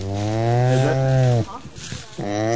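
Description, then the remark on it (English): A male llama lets out loud, drawn-out droning calls: one long sustained bellow, a short noisy gap, then another call starting up, sounding eager and insistent, while being led up a steep hill on a llama trekking hike. “He's raring to go, hear that? He's revving his engine.”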